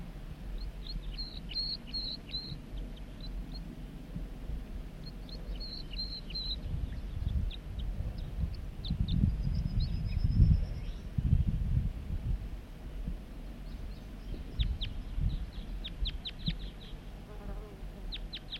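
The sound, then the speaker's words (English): A wild male bird sings from the top of a big dead snag: short, high, chirpy phrases repeated several times with pauses between, fairly faint over a steady low buzzing and rumbling background. “He's singing now from the top of that big dead snag.”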